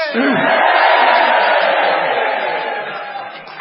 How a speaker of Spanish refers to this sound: Muy bien, después de este grito de rebeldía, vamos a dedicar esto al comisario.